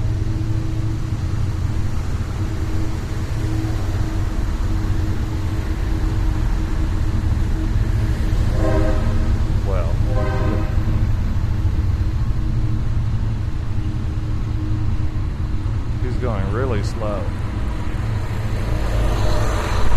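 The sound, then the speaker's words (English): A slow train rolls by with a steady, heavy low rumble that lasts the whole time, broken by two short bursts of high, whining metallic squeal. No one speaks. “Hey, here's an opportunity to catch a train.”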